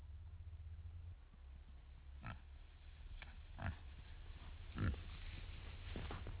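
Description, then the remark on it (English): Wild pigs, black and hairy with long, pointy snouts, grunt and oink in a handful of short, scattered bursts on a hill near Waimea on the Big Island of Hawaii, over a steady low background rumble, with no one speaking. “They're black and hairy with long, pointy snouts.”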